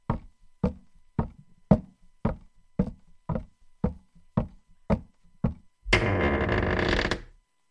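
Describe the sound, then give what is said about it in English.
About eleven evenly spaced knocks on a door, steady, followed by a loud buzzing tone lasting just over a second. No one speaks. “You got to get to the door.”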